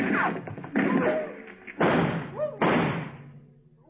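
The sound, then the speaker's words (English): A series of loud, sharp gunshots fires at irregular intervals, each blast followed by a short echoing decay. “Dr. Mitter left in the direction those shots came from.”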